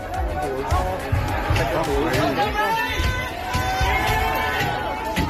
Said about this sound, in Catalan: Això que sentim són persones que estan colpejant portes i finestres de cases de famílies d'immigrants, a més d'intentar també cremar els habitatges.